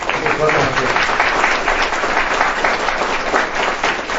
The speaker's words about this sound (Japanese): まず拍手をお願いします。